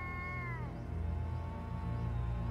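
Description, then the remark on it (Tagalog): Cats, many of them a landlady's pets, wail at night in long, drawn-out, gliding yowls that bend downward, fairly loud, with a low rumbling background beneath and no talking. “Gabi-gabi nagigising ako sa palahaw ng mga pusa.”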